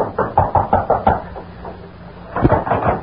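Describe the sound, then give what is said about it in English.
A series of firm knocks on the wooden door of the Farnsworth apartment: a quick run of about six raps, a brief pause, then a second shorter burst of knocking. “Then, after waiting a few moments longer, he approached and rapped on the door.”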